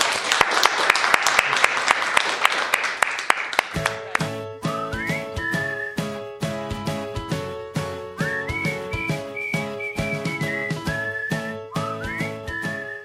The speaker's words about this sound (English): And a round of applause, please.